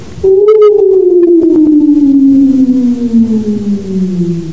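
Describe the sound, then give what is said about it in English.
A female jackal lets out one long, loud, desperate last howl before dying, its wavering tone sliding slowly downward in pitch over several seconds, with no talking. “And the jackal again let loose one desperate last howl before she would die.”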